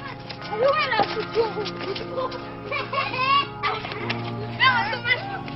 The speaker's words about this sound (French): Ces enfants qui jouent dans les rues des vieux corons sont eux aussi fils de mineurs, petits-fils de mineurs.